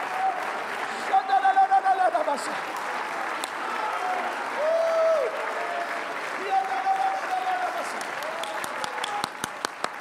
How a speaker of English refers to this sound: Come on, clapping is good for your human passions.